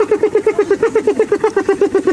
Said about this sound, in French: Non, malheureusement, c'est une hyène.